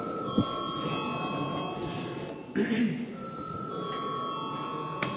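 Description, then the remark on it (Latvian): A parliament bell rings continuously before a vote, a steady, sustained electric tone over a low murmur of voices and brief rustling noises. “Lūdzu, zvanu.”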